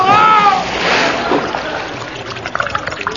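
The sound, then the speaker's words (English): A short vocal cry gives way to a heavy splash of a boy plunging into a river while wading across it, the water going over his head, followed by fading sloshing and trickling. “the water has come over …'s boots. In fact, it's come over his head”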